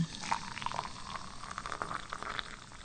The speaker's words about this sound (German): So, das Wasser kocht. Das ging schnell jetzt.